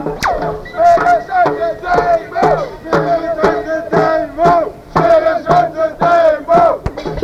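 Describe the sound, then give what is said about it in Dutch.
A crowd of protesters at a demonstration near the Munt chants in unison, loud rhythmic shouted phrases repeating in regular bursts with brief pauses between them, voices blending into a strong collective roar. “Nou, we zijn bijna ter hoogte van de munt en uiteindelijk wordt dan geroepen smeren ze uit de demo.”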